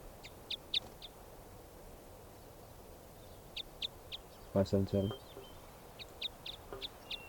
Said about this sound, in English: So 577 was the loud bird there.